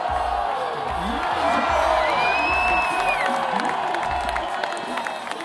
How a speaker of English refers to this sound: That is also the sound of a Russian crowd realizing that a man born in Russia, living in Switzerland, has just captured the gold in a traditionally American sport.